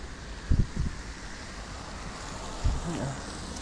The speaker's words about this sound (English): In case you couldn't tell by the sound, it is pouring rain now. But luckily, I did bring an umbrella today.